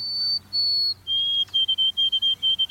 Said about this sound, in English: From a nearby evergreen come the pure whistled notes of a white-throated sparrow.